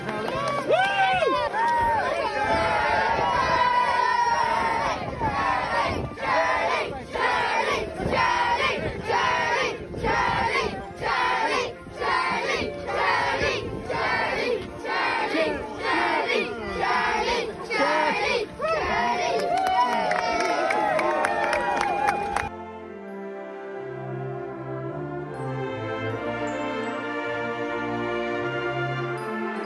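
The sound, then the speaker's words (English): A large crowd roars and cheers loudly for Charlie Bird as he reaches the heights of Pro Patrick, for about twenty seconds, with rhythmic pulses of shouting and applause, before the noise cuts off abruptly into quieter, tonal sound. “This is the reaction Charlie Bird got when he reached the heights of Pro Patrick. And it's a reaction he deserves.”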